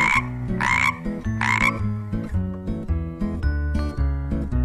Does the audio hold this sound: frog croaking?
yes